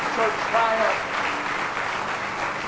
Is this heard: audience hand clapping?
yes